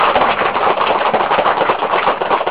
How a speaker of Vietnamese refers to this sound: Cho nên quý vị nên vỗ một tràng pháo tay để tán dương công đức Hòa Thượng Thích Nhiệm.